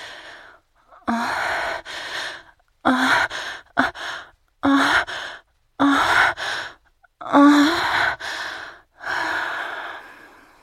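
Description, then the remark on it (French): A woman moans softly and breathily, very close up, in a string of about seven drawn-out sighs separated by brief silent pauses, with no talking. “Je la sens gémir pour moi au creux de mon oreille.”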